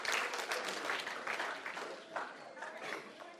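An audience applauding, a dense, steady patter of many hands clapping that holds at an even level for a few seconds before easing slightly at the end.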